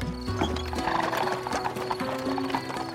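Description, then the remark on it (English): Horse hooves clip-clop in a steady rhythm as a horse-drawn carriage drives away, with a horse neighing partway through over a busy, rumbling background. “Wait! Stop the horses!”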